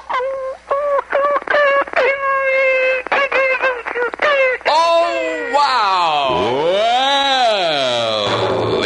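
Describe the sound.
A woman imitates her own dog as her talent on WAKY Louisville radio's Amateur Weekend: a quick run of short, high yips and barks, then a long, wavering howl that swoops down and rises again, loud and alone.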